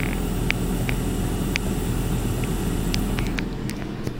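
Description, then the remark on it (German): A steady, loud appliance motor hum fills the whole recording, with faint sizzling and scattered small crackles from food frying in the appliance's pan, heard up close to the device, partly buried beneath the motor drone. “Ja, und wenn wir ganz nah rangehen ans Gerät bzw. die Pfanne, hören wir es da auch ein bisschen brutzeln, auch wenn es etwas vom Motor übertönt wird.”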